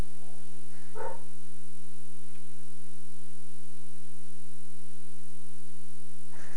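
A single short dog bark sounds near the start, then nothing but a steady electrical hum for several seconds, with a faint stirring right at the end.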